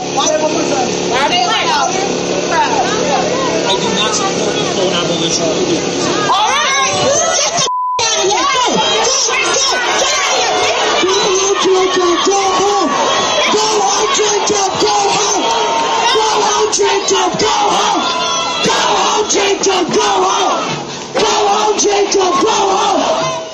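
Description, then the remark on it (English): A large crowd shouts and yells loudly and continuously at a rally confronting Mayor Jacob Fry, who stands below the stage, voices overlapping in a dense roar with a few rising cheers, briefly cutting out once before surging back. “Jacob Fry, you know, here they are shouting. You heard the shouting.”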